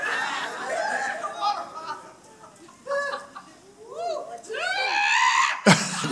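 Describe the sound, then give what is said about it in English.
High-pitched, rising screams and shrieks from an audience member in a noisy crowd, with other voices clamoring underneath and a sharp, loud burst near the end. “Somebody just scream.”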